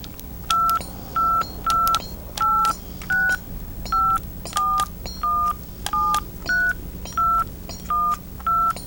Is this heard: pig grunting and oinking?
no